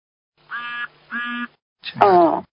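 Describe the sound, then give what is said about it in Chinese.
A duck kept by a household quacks three times: two evenly spaced nasal quacks, then a louder, harsher, rasping one, with no talking. “你们家养鸭子的？”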